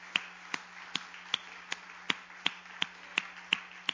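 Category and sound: crowd, audience clapping hands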